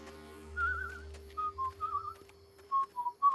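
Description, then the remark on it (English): A person whistles a short, wavering tune in a series of clear notes with brief pauses between phrases, over a low steady hum. “Just whistling in the dark?”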